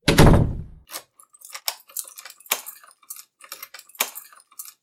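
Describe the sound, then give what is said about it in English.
A woman locks a door: one heavy thunk, then a quick run of light metallic clicks and key jangles. No voices are heard. “Immediately after locking the door, she lit a candle and picked up the broom for the 80 millionth time.”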